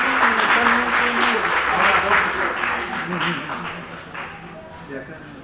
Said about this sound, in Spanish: Un aplauso.